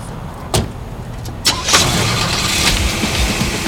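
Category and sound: vehicle, car engine starting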